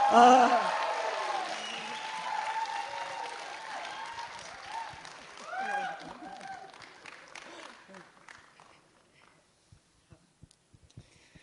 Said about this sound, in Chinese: 我们用最热烈的掌声来欢迎我们的小家长